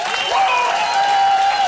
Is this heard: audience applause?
yes